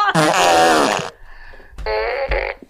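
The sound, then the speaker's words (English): Two loud, buzzy fart sound effects from a fart gun, one long blast followed by a brief gap and then a second sputtering blast, both prominent with no talking. “So, and that's coming from someone with a fart gun.”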